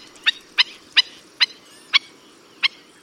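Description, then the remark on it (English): Six sharp, loud bird calls, spaced unevenly about half a second apart, ring out over a faint background hiss: black-necked stilt calls, yelping and insistent. “They leap into the air and call with an intensity and volume all out of proportion to their delicate appearance.”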